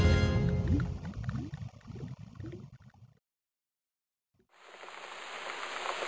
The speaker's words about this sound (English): Look at that rain, Mrs. Trout. It hasn't stopped raining for a week.